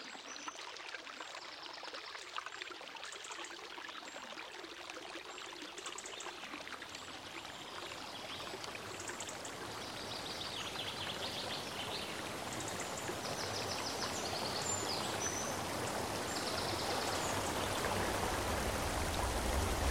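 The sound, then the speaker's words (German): Steady rushing of river water, a dense continuous wash of splashing and gurgling that swells slightly louder toward the end, with no voices present. “Also, wenn wir jetzt an dieser Stelle uns mal alles andere wegdenken würden und unseren Fokus nur noch auf diesen Fluss hier setzen oder auf diesen Wald da hinten.”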